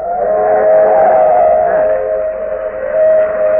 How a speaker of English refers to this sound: The train coming. It's an old steam train. I thought everything up here was diesel.